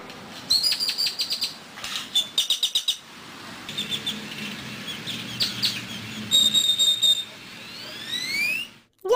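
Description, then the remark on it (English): Grackles, a kind of blackbird, call in a steady run of harsh, squeaky chirps and clacking bursts, broken by a few rising, whistled squeals, against a low background murmur. “A grackle is a bird, a blackbird that looks like they've been slightly stretched out.”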